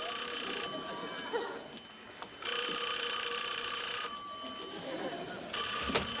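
A telephone rings in long, shrill electronic bursts separated by short pauses, about three rings in all, loud and steady over a low background rumble.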